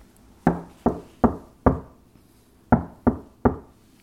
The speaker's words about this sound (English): there's a knock on the door of the Vale's cabin in Bannock